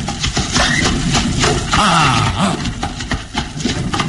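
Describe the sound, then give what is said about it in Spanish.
A steady rumbling clatter of wheels and hooves, with sharp repeated knocks and a brief strained tonal squeal or whinny midway, as a horse-drawn carriage resumes its journey toward a castle, its reins held by Calimán. “La carretela reanuda la marcha tirada por los caballos, cuyas riendas son firmemente sostenidas en las recias manos de Calimán.”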